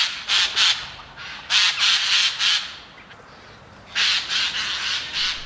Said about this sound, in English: With a harsh screech like tearing linen, it's no wonder that the jay is known in Wales as the shrieker of the woods.